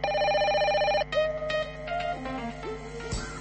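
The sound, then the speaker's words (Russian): A steady electronic telephone ring sounds loudly for about a second, then cuts into a brief run of shifting tones; no one speaks. It is the next phone call, addressed to the Belarusian opposition. “Наступное телефонование на адрес оппозиции.”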